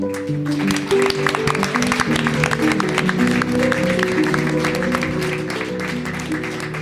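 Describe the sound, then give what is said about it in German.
A crowd claps steadily for about seven seconds, a dense, even patter of many hands at moderate loudness, with low sustained tones humming underneath the whole time, applauding an author whose text was read at a reading event. “Applaus auch.”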